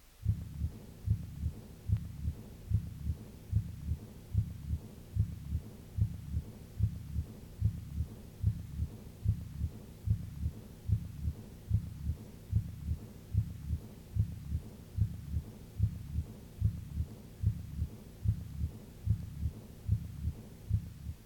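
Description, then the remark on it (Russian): Steady, rapid heartbeat through a stethoscope at the second auscultation point, each beat followed by a soft, faint blowing diastolic murmur of aortic regurgitation, repeating evenly for the whole recording with no talking. “Этот шум обладает мягким дующим тембром и небольшой громкостью.”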